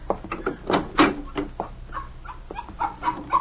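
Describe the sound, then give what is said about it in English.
A puppy yaps over and over in quick, uneven bursts, about a dozen short high-pitched barks and yips, fairly loud, with no one talking. “Get that mutt out of here and make yourself useful.”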